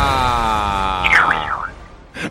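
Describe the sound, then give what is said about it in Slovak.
A voice imitates a snail with a steady, buzzy hum that breaks into a few warbling, squeaky pitch swoops, then ends with a short breathy burst. “A to kde ti napadlo, že slimák robí tieto zvuky?”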